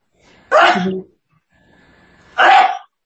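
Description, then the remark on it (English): Two loud, sharp sneezes about two seconds apart, each a short explosive burst with quiet between them and no talking. “Gesundheit.”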